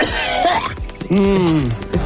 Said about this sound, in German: Mikrofoncheck. Müssen wir jetzt wieder husten? Test.